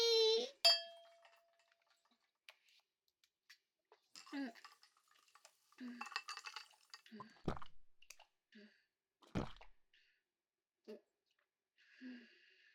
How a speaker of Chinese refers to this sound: 那么，庆祝这一周的工作顺利完成，干杯！